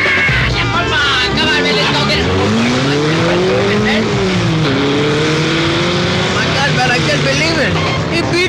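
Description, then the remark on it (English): Loud car engines rev and accelerate hard from a traffic light as it turns green in a race, pitch climbing through gear changes, with tires squealing as the cars pull away together; a voice shouts over the roar. “Let's do it when the light turns green, man.”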